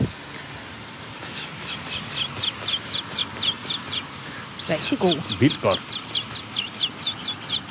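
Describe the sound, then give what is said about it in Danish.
A person imitates a bird with whistled chirps, repeating quick high tweets in a steady rhythm throughout, fairly soft, with a brief burst of talking partway through. “Først så kan jeg sige som en fugl.”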